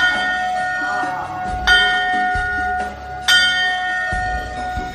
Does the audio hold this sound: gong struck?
yes